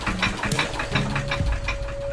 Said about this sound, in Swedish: Så hörs ett dunkande över viken. Och en träbåt dyker upp bakom en av kopparna.